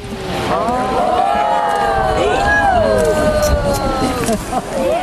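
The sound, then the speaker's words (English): A group of tourists watching Old Faithful geyser erupt at Yellowstone murmurs and exclaims over a steady, broad rushing hiss of erupting water, with many overlapping voices rising and falling throughout. “Here's a group of tourists watching Old Faithful erupt at Yellowstone.”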